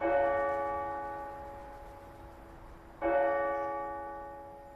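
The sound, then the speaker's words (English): The bells of St. Mel's Cathedral in Longford Town, rung by a new automated system, chime the hour twice, about three seconds apart, each deep resonant strike ringing out and slowly fading before the next. No voices, just the bells standing alone and fairly loud. “But now, thanks to a new automated system, hourly chimes and hymns have returned.”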